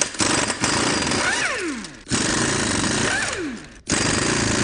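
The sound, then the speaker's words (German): A loud impact wrench rattles in sustained bursts, its pitch sweeping down as it spins lug nuts off a car wheel, with brief pauses between runs and no talking. “Dann versuchen wir jetzt mal die Räder abzumontieren.”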